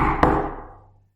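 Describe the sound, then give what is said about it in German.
A single sharp knock on wood, followed by a hollow resonant ring that fades away over about a second. No one speaks. “Holz klopfen, ey. Ja, ey, ich würde dich auch, warte, hört mal, für den Podcast.”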